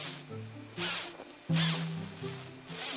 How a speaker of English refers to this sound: Here's a tiny walnut sphinx caterpillar doing its best to sound big and tough.